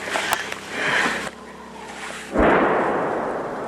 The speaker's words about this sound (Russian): На пушку схоже. І це зараз наша пушка працює.